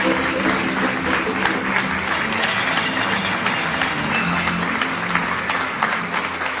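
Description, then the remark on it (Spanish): An audience at the El Arandú 2014-2015 awards applauds the winner of the music category steadily for several seconds, a dense wash of many hands clapping at once, fairly loud and even throughout, with no clear voices standing out. “También, que no te desespares, el reconocimiento, el aplauso.”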